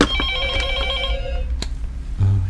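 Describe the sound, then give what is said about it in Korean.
A telephone, called from another phone as a test, rings with a bright, electronic trilling tone that repeats for about a second, followed by a sharp click as it is picked up and a low hum, with no voices present. “전화가 왔고요.”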